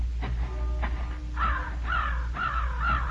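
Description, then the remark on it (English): A flight of rooks flying overhead caws in a ragged series of about four harsh, raspy calls, preceded by a couple of fainter ones, over a steady low rumble with no voices. “A flight of rooks flew overhead, and in the distance the village bells rang for vespers.”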